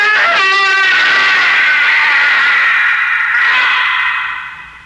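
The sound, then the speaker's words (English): A long, piercing, shattering scream, loud and sustained for about four seconds, harsh and high with a wavering edge, swelling again before trailing off; no talking. It is said to come from a black imp imprisoned in a bottle. “But you didn't expect a minor gesture could cause that piercing, shattering, evil scream that shriveled your tolerance to a shivering fear.”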